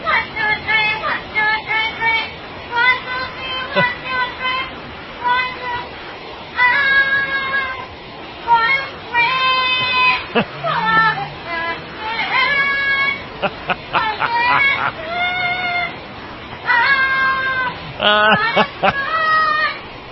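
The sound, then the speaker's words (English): A parrot sings a pop tune in squawky, voice-like bursts of melody, phrase after phrase with brief pauses, fairly loud, some notes straining high. “You know what they must teach that parrot next?”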